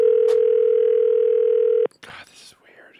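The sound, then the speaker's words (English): A loud, steady telephone dial tone hums continuously for nearly two seconds as someone starts calling a list of phone numbers, then cuts off abruptly, followed by a brief burst of voice and clatter. “And so I made a list of all those phone numbers, and I was like, I'm just going to start calling.”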